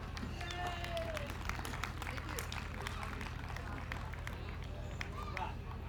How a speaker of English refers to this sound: So please keep your applause going